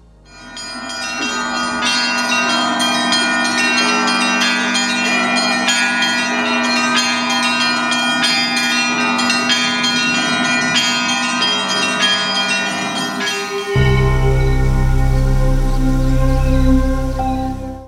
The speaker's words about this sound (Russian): колокольня считается не только украшением сердца Рязани, занимая главенствующее место в панораме города, но и своим голосом является живым свидетелем нашей истории, зовущим величественным благозвучием к объединению людей в молитве, к богослужению.